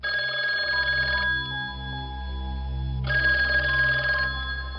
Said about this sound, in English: So Underhill gets murdered. The phone rings.